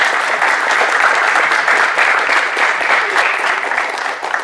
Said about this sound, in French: Je vous demande d'applaudir